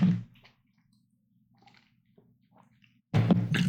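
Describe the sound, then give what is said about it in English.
Soft, wet sipping and swallowing noises of someone drinking water during a quiet pause, with faint liquid squishes, bracketed by louder bursts of sound at the start and end. “Yep, drink of water.”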